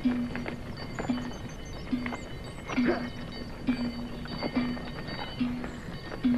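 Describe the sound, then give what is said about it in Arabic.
Donkey hooves clip-clop at a steady, unhurried walking rhythm, each hollow knock evenly spaced, with a low continuous hum running underneath. “لقد أصبت الحمار.”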